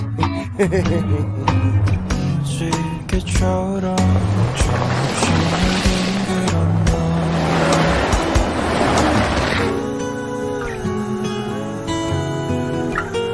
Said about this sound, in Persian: این ماشین حتی صداش هم فرق داره.